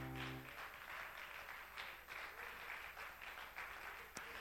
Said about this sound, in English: One more time, can you applaud the Lord for His goodness, for His grace, for His mercy?